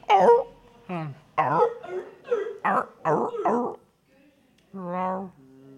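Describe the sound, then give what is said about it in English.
A person vocally imitates a seal's barking call: a run of loud, harsh, rhythmic barks, then a drawn-out wavering honk near the end, with no other sounds. “What about a seal?”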